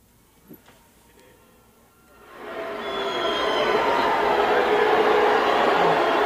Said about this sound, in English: So Musk then, after, you know, Chappelle acknowledges the boos, he goes, "Hey, Dave," and then that obviously prompted a huge wave of boos in the crowd.